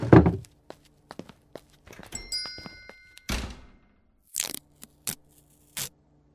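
A heavy thunk, then a few soft footsteps, a door opening with a brief bright chime of a bell, and more scattered steps and knocks. Close by and fairly quiet, with no talking.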